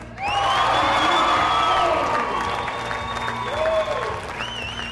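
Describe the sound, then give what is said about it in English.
A crowd of about 150 people on its feet erupts in sustained cheering and applause as a man makes his final shot and reaches his goal, with whoops and high shouted voices rising over a dense wall of clapping that stays loud for the full five seconds. “with the crowd of about 150 people on its feet, counting down the number of shots left, Dave Cummings reached his destination”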